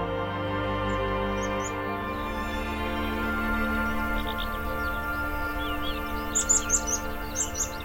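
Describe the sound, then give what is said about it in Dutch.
Birds sing outdoors in the Dingelderveld nature area in sunshine, a series of bright, high chirps and short trills, growing busier in the second half over a steady low hum of background noise. No one speaks. “Ja, heerlijk hè, die vogels.”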